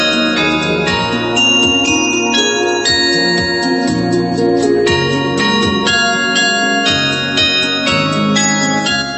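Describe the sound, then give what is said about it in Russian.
Loud bells of a mobile carillon, a 4-tonne instrument with more than fifty bells, ring out a continuous melody in Votkinsk and Izhevsk, Russia, many bells struck in quick succession with long, overlapping resonant tones that shimmer and sustain throughout. No voices are heard. “У единственного в России передвижного карильона второе пришествие. Инструмент мощный и громкий, 4 тонны и больше полусотни колоколов. Их звон услышали любители музыки в Воткинске и Ижевске.”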